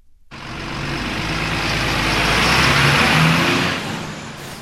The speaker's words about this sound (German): Noch rollt der Verkehr über den Schulhausplatz zu Baden. Ab dem nächsten Montag könnt ihr aber etwa die mal ins Stocken kommen.